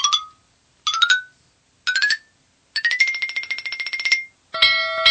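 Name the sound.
bell being rung repeatedly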